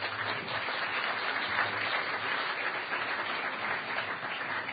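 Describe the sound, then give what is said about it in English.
Steady crowd applause, dense and continuous, many hands clapping at an even level for several seconds with no voices over it, welcoming a speaker who will talk about art and the Chiptunes concert. “So everybody, give a round of applause to Gus, who's going to be talking about art and the Chiptunes concert.”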